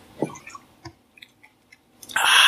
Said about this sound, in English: I think it's Suntory. I think you got it right the first time. Did you watch Lost in Translation? Yeah, this is actually the alcohol that he advertises for in Lost in Translation. So let's have a little sip and see how we feel about it.